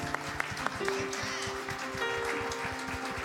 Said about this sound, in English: We want to give her a round of applause because she is our leader.